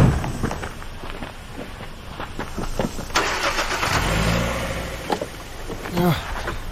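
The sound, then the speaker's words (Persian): A car engine cranks and turns over partway through, then settles into a low, steady running rumble, with faint voices and background activity around it, on a very hot day. “اینم خیلی داره خودشو اذیت میکنه. بیاییم بریم.”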